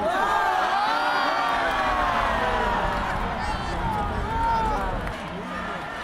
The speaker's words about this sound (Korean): 숨을 죽이고 경기를 지켜보던 관중들은 아쉬움을 뒤로하고 괜찮아를 외치며 단일팀을 응원했습니다.